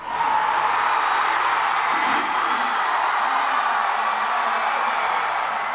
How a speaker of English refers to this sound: Big round of applause there.